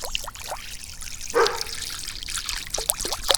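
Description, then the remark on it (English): About 3.85 liters of water are poured into a shallow bird bath, trickling and splashing steadily with bubbly gurgles and a brief louder gush partway through, and no voices. “All right, time to pour the water into the bird bath.”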